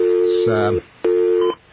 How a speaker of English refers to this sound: Okay, we got our dial tone? Good.